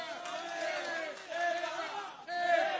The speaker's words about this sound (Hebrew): השמחה הזאת, רבותיי, עברה בשידור חי. תנו לעצמכם הרבה מחיאות כפיים.